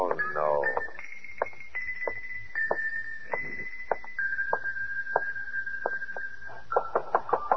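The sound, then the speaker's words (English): Irregular knocking on a door by someone with a message, demanding it be opened: a long string of sharp raps in uneven bursts, some quick doubles, playing over a steady high-pitched hum, with a brief voice-like sound at the start. “Come on, open up, will you? I got a message for you. Come on, answer the door.”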